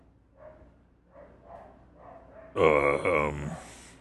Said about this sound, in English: Well, it involves more of our neighbor's dogs barking. Obviously.